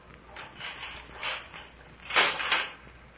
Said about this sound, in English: And then the door was unchained and opened.